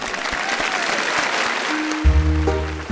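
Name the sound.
applause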